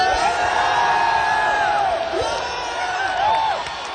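concert crowd cheering

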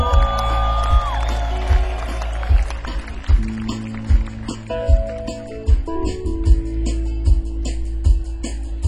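audience cheering and yelling

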